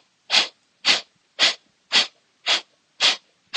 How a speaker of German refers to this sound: Atme tief durch die Nase ein und wieder aus. Wir atmen zusammen ein und du atmest aus.